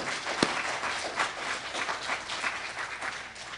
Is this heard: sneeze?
no